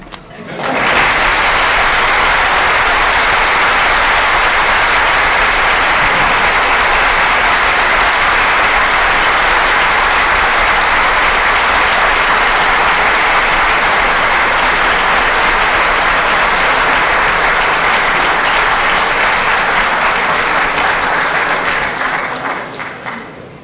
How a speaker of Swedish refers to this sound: Om jag säger att det är mycket sällsynt att någon ifrån de provinserna får så kraftiga applåder i Stockholm, så är det inte adresserat till någon speciell